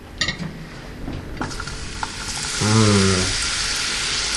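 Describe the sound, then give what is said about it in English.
A few light clinks and taps, then food with mushrooms hits a hot frying pan and a loud, steady sizzle swells up and keeps crackling, with no one talking. “And now, just going to put some of this into the frying pan.”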